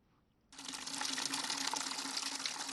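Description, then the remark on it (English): After a brief quiet moment, loud water noise bursts in and keeps rushing and splashing steadily, with a faint low hum underneath and no voices, as emergency medical workers and civilians clear dirt and debris from water beneath houses on the shores of Cameroon's Bakassi Peninsula. “Emergency medical workers, together with some civilians, cleared dirt and debris from water beneath houses on the shores of Cameroon's Bakassi Peninsula.”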